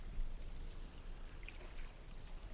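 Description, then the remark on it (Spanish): Soft, steady sloshing of clear blue sea water with a brief brighter burst of splashing midway as feet step into the cool water, quiet, with no voices. “Mojas tus pies en el agua.”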